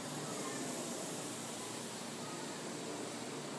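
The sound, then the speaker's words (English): A steady, airy hiss of breath drawn in through clenched teeth during Sitkari, the hissing breath, with the lower lip relaxed and open and the teeth together. It stays soft and even for a few seconds with no voice. “The lower lip relaxes, open, teeth are together, and you inhale like a wispy hiss through the teeth.”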